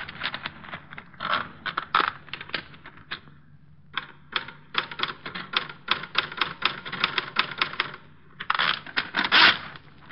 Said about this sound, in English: Typed. And there's a typewriter.